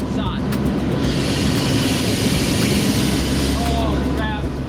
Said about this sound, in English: Lots of rain. It's loud in the flight station. It's not like deafening loud, but it being loud for 3 or 4 hours, it exhausts you. when you hear rain on a tin roof, right? But it's that times, you know, 100.